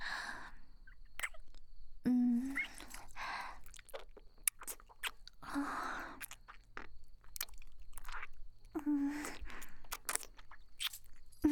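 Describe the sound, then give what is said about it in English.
A cat crunching and chewing food, with repeated sharp, clicky crunches in an irregular rhythm, interspersed with wetter chewing sounds and a few brief squeaky vocal noises. “Are you enjoying it, kitty?”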